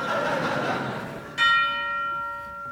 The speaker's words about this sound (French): Sonnez la cloche. La Vierge est proche.